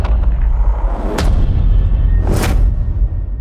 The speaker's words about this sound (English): There's also the reverse cymbal. And lots of different types of hits.